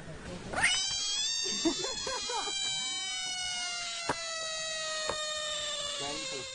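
A screaming frog, picked up, lets out a shrill, wavering scream in drawn-out, overlapping wails that sound much like a distressed cat, steady, with a couple of brief sharp clicks.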